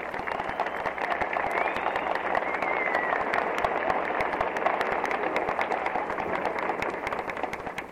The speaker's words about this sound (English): Again, … goes to the concert stage to acknowledge the applause of this tremendous audience.